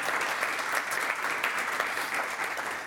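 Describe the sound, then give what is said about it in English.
A crowd claps steadily for about three seconds, a dense, continuous patter of many hands at even loudness, with no one speaking. “Let's give them a round of applause for getting through that lightning round.”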